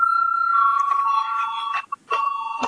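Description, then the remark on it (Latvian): A parliament voting bell rings before a vote, a loud, steady electronic tone that shifts slightly in pitch, cuts out briefly near the end, then resumes, with no voices. “Lūdzu, zvanu.”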